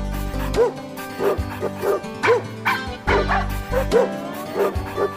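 A dog barks over and over in quick, sharp, loud bursts, about a dozen yaps and yips in five seconds, with a low steady hum underneath.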